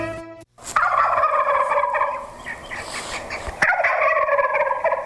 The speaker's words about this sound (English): The wild turkey is native to North America and is an upland game bird that prefers open, mature forests with scattered fields and pasture openings. Turkeys feed by foraging on nuts, berries, and seeds.